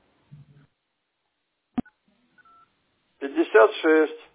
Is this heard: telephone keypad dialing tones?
yes